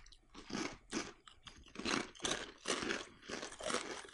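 Crunchy, spiced Havoc chips being chewed, a steady run of about nine loud, crackly crunches in an even rhythm with no talking.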